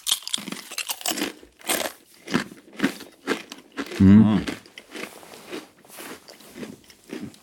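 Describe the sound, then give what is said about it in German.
Someone bites into and chews salty crispbread, producing a steady series of loud, dry crunches in an irregular rhythm, with a brief low voiced murmur partway through. “Salziges Knäckebrot.”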